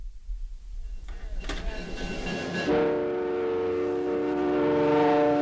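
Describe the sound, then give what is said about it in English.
A passenger train running between Churchill and Winnipeg in Canada rumbles along the tracks with low, steady rolling noise, then a loud, sustained horn-like tone rises and holds over the rumble. “The train between Churchill and Winnipeg.”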